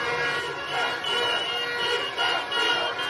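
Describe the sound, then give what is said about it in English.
A large crowd in the streets of Guatemala City, outside a hotel, roars and chants "Yes, it was possible" on August 20th, celebrating an election victory. A dense, sustained wash of many voices that swells and dips slightly but stays loud throughout. “To set the scene, you are waving from the balcony of a hotel, and the crowds outside are euphoric. They're chanting, "Yes, it was possible."”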